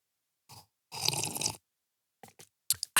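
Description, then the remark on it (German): A loud slurping sip of mulled wine from a glass, followed by a few short wet swallowing and mouth clicks, with no talking. “Ich trinke mal kurz einen Schluck von meinem Glühwein.”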